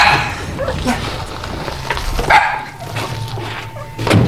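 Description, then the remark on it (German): Several dogs bark in loose, scattered bursts as they are freed and let out, loud, with some yipping and whimpering between barks over a steady low background hum. “Los, schnell, wir befreien die Hunde.”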